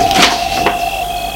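The entrance door of a castle opens with two brief scraping, rustling bursts over a steady faint hum; no one speaks.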